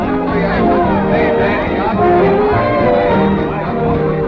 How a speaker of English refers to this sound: Let us join the crowd at Eloise's party for the returned hero, Danny Barnes.